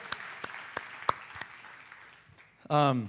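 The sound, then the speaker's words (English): Applause for sixth graders at a special service dying down: a handful of sharp, scattered claps at an uneven, slowing pace over a soft background wash, then a voice briefly begins speaking. “And so if you guys can recognize our sixth graders and give them a round of applause.”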